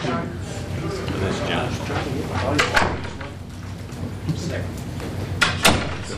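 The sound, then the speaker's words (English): A back door opens and closes as someone comes in, with a couple of sharp clunks and rattles standing out over a steady murmur of indistinct voices and room noise. “He was here, I just saw him. Coming in the back door.”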